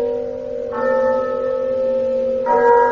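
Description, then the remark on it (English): A church bell rings out alone, with two resonant strikes spaced about two seconds apart. Each note hangs and hums steadily between blows, with no voices present. “he remembered, on a sudden, that he'd been warned of a visitation when the bell tolled 1.”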